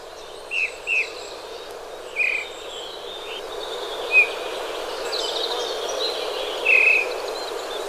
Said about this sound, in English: The sound of bullfinches out in the wild where they belong.